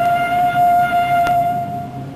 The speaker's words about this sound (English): Faintly from a distance, there comes the sound of a departing train.